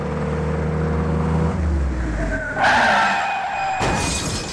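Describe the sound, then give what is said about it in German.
A self-driving car with sudden brake failure swerves into a concrete barrier: the engine drones with steady low tones, then tires screech in a skid and two sharp, loud crashing bursts follow, with no voices present. “Oder aber das selbstfahrende Auto mit plötzlichem Bremsversagen wird ausweichen und in eine Betonbarriere prallen.”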